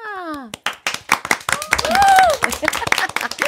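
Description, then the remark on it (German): Scattered hand clapping, sharp irregular claps forming brief applause, with cheerful voices and a sliding whistle-like voiced tone rising over it. “Das Applaus.”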